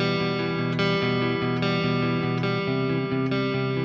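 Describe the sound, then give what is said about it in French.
A clean-tone, lightly crunchy electric guitar plays steady, ringing chords with a slight grit, washed in reverb and delay, new strums landing roughly every 0.8 seconds with no one talking; it is the basic guitar sound of an album track. “Un son clean, légèrement crunchy. J'aime bien quand ça croustille un petit peu comme ça. Avec reverb, délai qui vont bien.”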